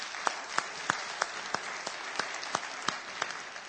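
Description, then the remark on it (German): Steady audience applause for the people who tidied up here, a dense patter of many hands clapping with a few sharper claps standing out at a regular pace, moderately loud and sustained without any voices. “Also nochmal einen großen Applaus an all die hier aufgeräumt haben.”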